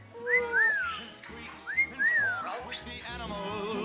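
pet bird whistling

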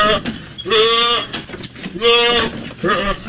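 goat screaming

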